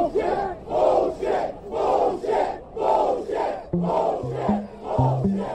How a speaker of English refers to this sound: And all of a sudden... And again, the crowd was just cheering and cheering.